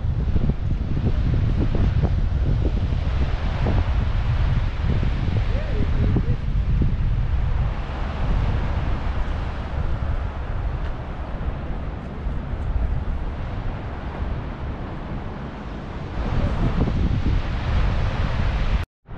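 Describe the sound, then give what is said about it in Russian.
Strong wind buffets the microphone for the whole stretch, a loud, continuous low rumble with gusty thumps and roaring surges, with a faint wash of surf or rustling behind it. “Витрила, правда, жуткие. Может, вам тут на микрофон влияет, не знаю.”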